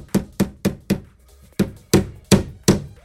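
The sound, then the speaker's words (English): A hammer strikes a nail into a wall with a series of sharp, solid knocks, four quick blows, a brief pause, then four more in a steady rhythm, fairly loud. “I just need a nail and a hammer, and then I just literally like line it up on the wall exactly where I want, and then I just kind of do this.”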